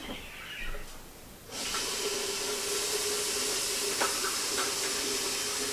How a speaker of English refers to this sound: I'm going to refill this pitcher of water and mix it to 20 degrees Celsius, because we'll need that for the wash at the end.